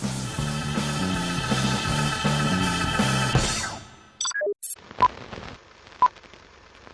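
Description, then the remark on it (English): Music plays and fades out, followed by a quick run of electronic telephone keypad beeps as someone checks voicemail phone messages, a short higher tone, then two soft clicks a second apart in near-silence. “Let's check the phone messages, huh?”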